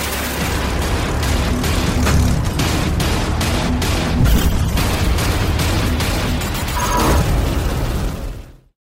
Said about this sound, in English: But for now, let's just wreck some cars.